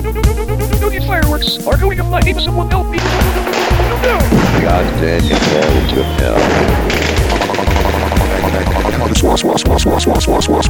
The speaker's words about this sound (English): Instead, we are going to have a fireworks show. Oh yeah, we are gonna blast the fireworks to Uranus and back.